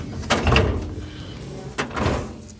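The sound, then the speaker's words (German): A filing drawer with hanging folders rolls shut with a rumbling slide as case files are put away while a desk is cleared for the weekend, ending in two sharp knocks about a second and a half apart, fairly loud, with no voices. “Die Akten wandern in Schubladen mit Hängeregister neben Fällen, wo keiner gleich ist wie der andere.”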